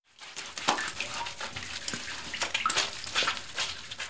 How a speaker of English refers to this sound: Mop the floor.